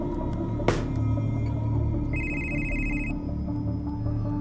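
A telephone rings once in a short, trilling electronic burst over a low steady hum, following a brief sharp knock a moment earlier. No one speaks.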